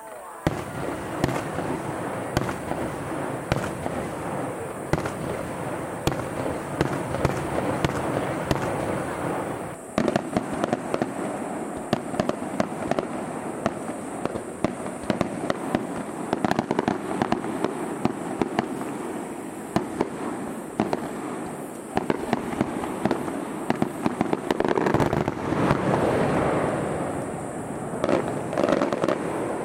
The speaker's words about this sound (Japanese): 応答地球元気村ということで、田辺市鮎川の応答水辺の学校というところで挙げられる、まあ、この町の大きなお祭りなんです。 そうですね、富田川になるんですけどね、 山に囲まれた場所で挙げる花火、音がまあすごいんです。